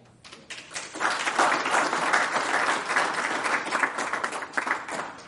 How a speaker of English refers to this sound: I think, should we applaud him?